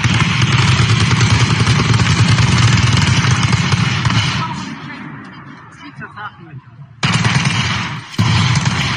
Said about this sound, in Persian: سپاه آخوند انقدر ترسو هست جرأت نداره بره جلو تیراندازی کنه، با نارنجک انداز دارن میزنن خونه ها رو. ببینید چهار ساعت تیراندازی مداوم میکردن، انقدر اینها بی شرف و ترسو هست.